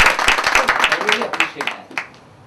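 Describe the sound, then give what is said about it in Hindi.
An audience breaks into a thunderous round of applause for a speaker, a dense patter of many hands clapping that thins out and fades toward the end, with a faint voice underneath. “Can we give a thunderous round of applause to sir?”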